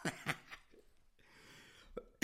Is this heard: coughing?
yes